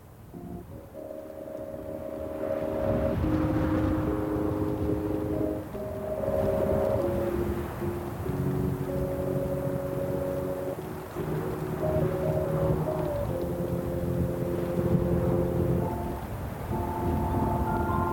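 A MIDI-synthesized song plays as steady, organ-like electronic chords, shifting every second or two in a slow progression, with constant rumbling wind noise buffeting the microphone underneath.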